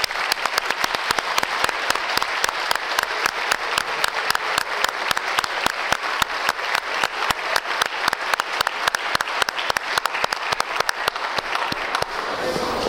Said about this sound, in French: Mais avant d'aller plus loin, je veux qu'on les applaudisse très fort pour leur première communion.